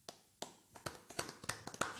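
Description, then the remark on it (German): Knuckles rap on a beer table as footballer-style applause: about a dozen sharp, dry knocks in an uneven rhythm that speeds up and grows busier toward the end, with no voices. “Wollen wir mal so einen richtigen Fußballer-Biertisch-Applaus?”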